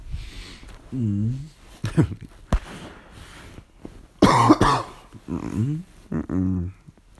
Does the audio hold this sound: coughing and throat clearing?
yes